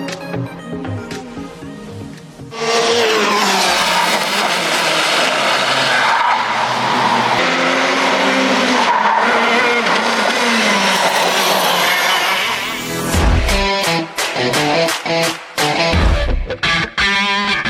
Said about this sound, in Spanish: El kartismo es un deporte que consiste en hacer carreras en unos carros pequeños, de poca cilindrada y que casi no cuentan con carrocería. Resulta que Costa Rica es la sede del Campeonato Nacional de Kartismo